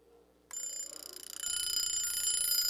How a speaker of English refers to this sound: You used to take them along on your trips, and you'd wind this thing up and set the alarm, and it would ring.